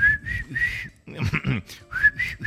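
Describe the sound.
Someone whistles a slow, wavering slow-dance tune from a university disco, two short phrases with a brief throaty vocal noise between them, the pitch drifting a little unsteadily.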